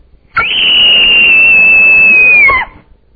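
A single piercing human scream holds one shrill, steady high pitch for just over two seconds, dipping slightly before it cuts off abruptly. It is loud and alone, with no talking.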